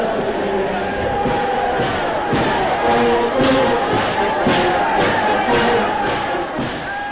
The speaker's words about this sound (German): Der Jubel der Massen war unbeschreiblich. Lange Fackelzüge zogen durch die Straßen, die Menschen schwenkten rote Fahnen mit einem schwarzen Hakenkreuz.